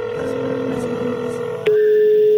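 A telephone line tone sounds steadily through a handset, interrupted by a sharp click partway through, after which a single unbroken tone continues at a slightly louder level. No voices are heard.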